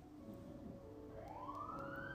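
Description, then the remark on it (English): An emergency vehicle siren wails steadily over a low traffic rumble, its pitch sweeping upward as it grows louder, with no one talking. “Now, why the sirens start?”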